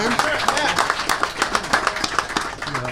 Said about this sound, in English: Thank you, guys. Good question. Yeah, let's clap for that. Come on.